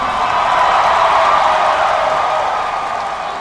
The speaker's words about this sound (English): At the Epicenter, for example, a large crowd gathered to watch the convention on an outdoor screen, and they went nuts when the president took the mic.